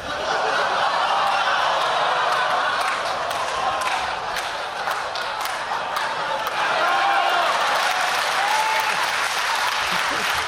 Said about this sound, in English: For the listeners, there was an extra burst of applause because of the tip of a hat. Such a simple gesture. I wasn't looking. I was like, what did he do? Oh, he took his hat off. What a delight.